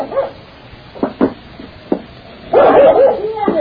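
A dog gives a few short, sharp barks spaced apart, then breaks into a louder run of high, whining yelps at the end, with no talking.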